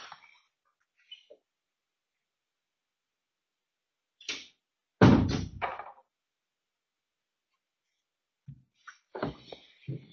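A door shuts with a loud, heavy thud, preceded by a brief click of the handle and followed a few seconds later by softer rattling and knocks.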